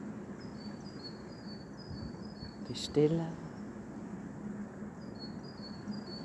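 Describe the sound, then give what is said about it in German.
Faint high-pitched chirping from small birds carries on outdoors in short repeated phrases, with a soft voice speaking briefly over it midway. “Die Natur, die du gerade hörst durch die Vögelchen und deine Natur, deine menschliche Natur.”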